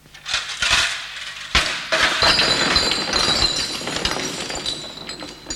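A long, loud crash of crockery and glass being smashed in a kitchen, with repeated impacts followed by a sustained clatter and tinkling of shards settling, no voices.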